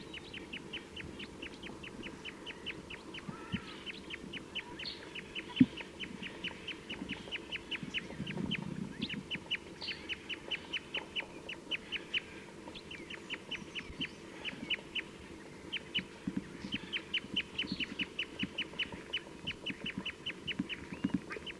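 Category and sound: bird, wild bird calls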